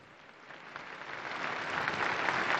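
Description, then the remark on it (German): Applause from an audience after a speech by the Pope, a broad crackling wash of many hands clapping that swells steadily louder over a few seconds, with no voices over it. “Applaus für diese energisch vorgetragenen Worte des Papstes.”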